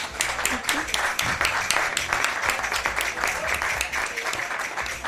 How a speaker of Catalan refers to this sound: Caram, un aplaudiment. Molt bé.